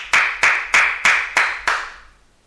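Six loud, sharp hand claps at a slow, steady, deliberate pace, close and crisp, with a short ringing tail after the last one; no voices.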